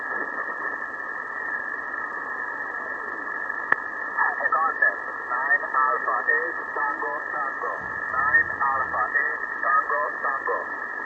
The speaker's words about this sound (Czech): Zrostlo tady rušení, je to znát v tom příjmu a samozřejmě ty evropské stanice poklesly, ten útlum se zvětšil, tak minimálně o 10 až 15 decibelů oproti optimálním podmínkám